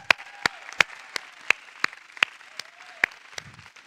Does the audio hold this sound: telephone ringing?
no